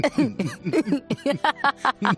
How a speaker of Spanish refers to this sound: Yo ya eso significa, según la PCR, que el virus no está en mi cuerpo, pero tengo este carraspeo desde el día que empecé a estar mala